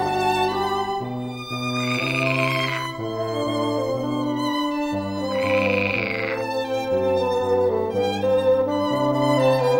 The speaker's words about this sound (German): Und tatsächlich quaken bei der Probe ein paar echte Frösche mit. Passt mal genau auf und zählt mal mit, wie oft wird hier gequakt.